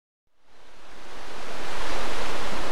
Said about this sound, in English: The River Spey is one of the fastest flowing rivers in the United Kingdom. Distillers have relied on this water to make whiskey for centuries.